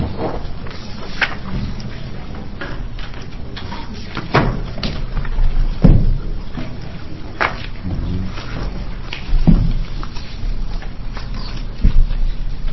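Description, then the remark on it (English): A chair is pulled up and shifted into place at a committee public hearing on House Bill 2766, giving a string of dull wooden thumps and short scrapes spread over several seconds against a low, steady background murmur. “I'll pull up another chair there.”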